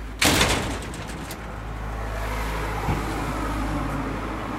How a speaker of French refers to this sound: Il va fermer la porte.